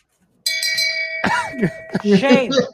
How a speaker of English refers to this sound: Oh, that's that's a lot of bells, 14 blocks. God, that's so, a lot of shame bells.